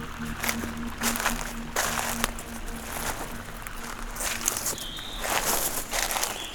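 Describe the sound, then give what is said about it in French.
Slow footsteps crunch and rustle through a carpet of dry dead beech leaves in a beech forest, each step a crisp, papery crackle, with a couple of faint high chirps near the end. “Nous marchons lentement entre la hêtraie des massifs de haut.”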